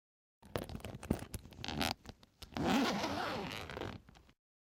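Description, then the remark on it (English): A tent zipper is pulled open in two bursts: a short series of rough, ratcheting zips, a brief pause, then a longer, steady rasping pull. No one speaks. “Open the tent.”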